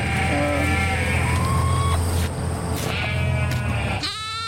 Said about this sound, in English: You want to see the sheep over here? Oh, yeah.